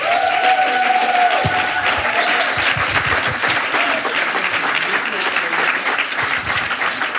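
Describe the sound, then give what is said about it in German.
An audience applauds steadily and loudly for about seven seconds, many hands clapping in a dense, continuous wash, with a brief high whistle or cheer rising near the start, welcoming the initiators and a producer at a congress. “Und bitte begrüßen Sie mit einem herzlichen Applaus die Initiatoren und einer der Produzenten, der dort ist.”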